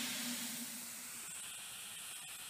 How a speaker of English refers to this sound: And the pressure gauge has got to the red line at 120 pounds per inch, and it doesn't matter how much I put the blower on or how much coal I put on, the safety valves can cope with that amount of steam that it's making.